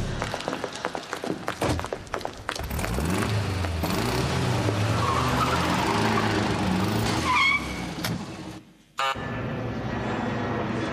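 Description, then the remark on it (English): A combi van engine revs and surges as it drives off, with quick rattling and a brief sharp tire squeal near the end, the motor droning loudly throughout. “I'll take you boys to that golden statue, but we'll have to go in your combi van.”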